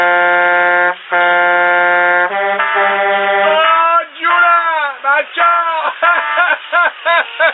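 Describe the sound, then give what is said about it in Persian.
A loud, sustained truck horn blast with a rich, buzzy tone, sounded by a truck driver on the road near Chabahar, breaks briefly, then holds again before turning into a run of wavering, pulsing honks that bend up and down in pitch. The sound is thin and tinny. “جون من، بذار من یه بوق ممتد بزنم بچه ها رو خبر کنم.”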